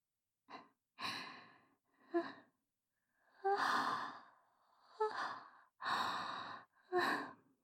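A drowsy yawn stretched over a series of breathy, voiced exhalations, about six airy puffs and drawn-out sighs rising and falling with a soft tonal edge, with no talking.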